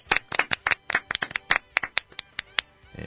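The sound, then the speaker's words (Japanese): A short burst of applause from a few people: sharp, bright hand claps in a quick, uneven patter that slows and stops after about three seconds. No one speaks. “今日もですね、知ってる就活始まりましたけれども、第268回目ということで拍手。”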